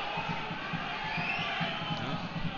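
A football stadium crowd roars in a dense, steady wash of voices, with a regular low pulsing beat running underneath, like rhythmic clapping or chanting, as WSV is awarded a free kick in Werder Bremen's half.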